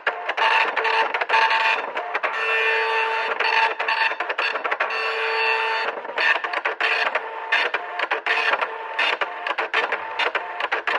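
dot matrix printer printing

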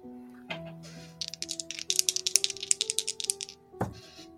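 dice rolling

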